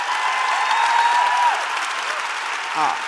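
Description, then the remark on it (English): A crowd applauds in a dense, steady wash of clapping that holds at an even loudness for about three seconds, with a brief voice breaking through near the end. “Applaud that, sure.”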